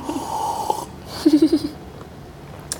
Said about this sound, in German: Müssen wir jetzt schlürfen, damit die Hörer hören, dass wir jetzt gerade eine Trinkpause machen? Ich habe das schon gerade gemacht.